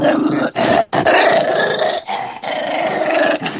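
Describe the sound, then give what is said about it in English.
A dog growls continuously in long, rumbling bursts separated by brief pauses, loud, with a rough, throaty texture throughout. “He only growls when I ask him.”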